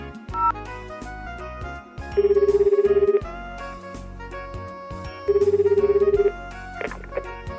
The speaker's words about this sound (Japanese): ラジオをお聞きのあなたは倉敷市コールセンターを利用したことがありますでしょうか。コールセンターですから、今回も電話してみましょう。